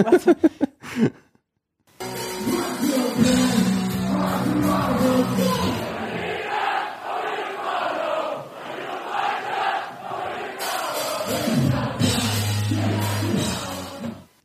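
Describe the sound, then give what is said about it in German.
The audience at a punk band concert sings along and shouts together in a loud, dense, sustained roar. A few brief bursts of sound come first, then a short pause before the massed singing begins. “Publikum war ab, weiß ich nicht, ab den ersten drei Akkorden on fire, alle haben mitgesungen und.”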